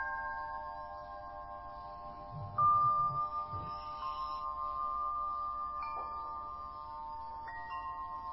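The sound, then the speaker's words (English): Bells ring out in a slow sequence, a new tone struck every second or two, each note humming on and overlapping the last in a calm, moderately quiet wash with no voices. “Just like you could differentiate between you and the sounds of the bells, notice you can differentiate between you and the sensations.”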